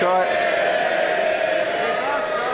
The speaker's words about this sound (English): They'll not be cheering in a moment, Mr Speaker.